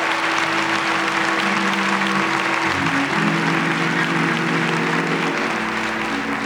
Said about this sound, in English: Give the Lord a good clap for it.